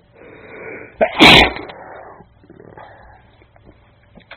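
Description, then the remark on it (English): A single loud, sudden sneeze bursts out after a short breathy intake, then trails off into quiet shuffling and faint breathing. “I hate it when sneezes come out of nowhere, like they often do.”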